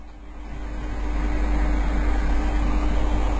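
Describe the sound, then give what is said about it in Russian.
A steady mechanical whir with a low hum from an electric fan cooling a room made hot by the heating, swelling slightly after the first second and then holding constant, with no talking. “И вот я теперь вот под вентилятором сижу, ибо жарко!”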